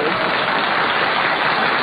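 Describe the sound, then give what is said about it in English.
A steady wash of clapping, dense and continuous like a crowd applauding, filling the whole short stretch at an even, fairly loud level with no voices on top. “Everybody's clapping.”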